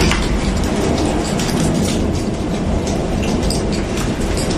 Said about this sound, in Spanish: La erupción del volcán de Cumbre Vieja abre otra nueva boca de lava y también deja esta especie de lluvia de pedrisco que complica todavía más la vida de los habitantes y también de quienes, como este guardia civil, trabajan para ayudarles.